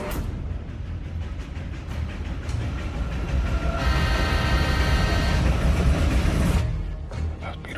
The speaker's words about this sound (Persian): بیا بیا بیا زود باش، بیا قطار داره حرکت میکنه.